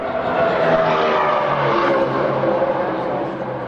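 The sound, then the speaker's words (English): A loud, continuous roar of NASCAR stock car engines racing around the big oval track of the California Speedway, a dense wash of motor noise with cars whizzing past and no talking. “Here's NASCAR's Auto Club 500 as cars whiz around the California Speedway's big oval racetrack.”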